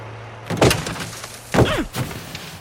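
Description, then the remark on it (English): The passenger door of a snow-covered car clunks open and then slams shut with a solid thud, two loud impacts separated by about a second, with no voices. “He slams the door, and snow falls on him.”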